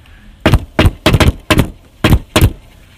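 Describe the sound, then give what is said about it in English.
Loud knocking on a door, roughly six solid thuds in an uneven rhythm with brief pauses between groups, and no voices. “You see, when someone knocks on the door, they want to be where you are at.”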